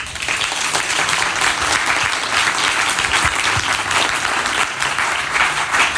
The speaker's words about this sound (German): Ich bitte um einen donnernden Applaus.